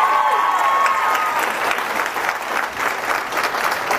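An audience bursts into steady, loud applause, dense clapping sustained throughout with a few faint whistles at the start and no voices standing out.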